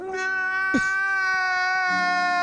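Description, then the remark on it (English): A baby's crying sound bite: one long, loud, sustained wail at a steady high pitch, with a brief sliding break early on, and no talking over it. “Then the crybaby.”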